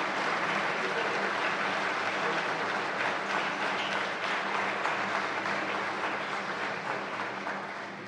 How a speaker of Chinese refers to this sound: 请你们起立，让我们表扬鼓掌。